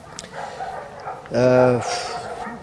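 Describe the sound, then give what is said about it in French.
A single drawn-out dog bark rings out midway, fairly loud, over a background of people talking. “Moi, je vis au milieu des chiens depuis 3 ans.”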